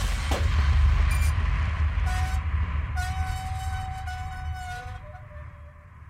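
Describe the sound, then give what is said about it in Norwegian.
A roller coaster train, its riders held upside down by safety bars on a high metal arch, rumbles loudly, then suddenly stops just as its yellow car is about to enter the loop, braking with a sustained high metallic squeal as the heavy rolling noise slows and fades, with no voices. “Men akkurat I det Rod og de andre I den gule vognen I ferd med å gå inn I loopen, stopper toget plutselig.”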